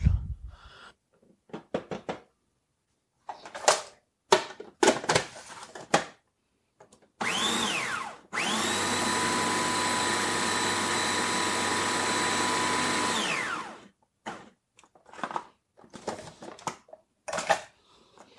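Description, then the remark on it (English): A food processor pulses crumbs with poured-in butter for a pie crust. It whirs in a quick pulse, then runs steadily for about five seconds with a loud, even motor whine. Scattered clattering knocks and scrapes come before and after. “Now the butter just gets poured in with the crumbs, and then we're going to pulse it a few times until we get something that can be pressed into place in the bottom of the pie pan.”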